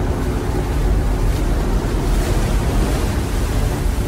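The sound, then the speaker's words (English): Huge tsunami waves churn and roar in a loud, continuous wall of water noise, with gusting wind mixed in and no distinct breaks or voices, in a film scene where a couple in a boat try to get over a tsunami. “This is where Ray and his wife are trying to overcome a tsunami in their boat.”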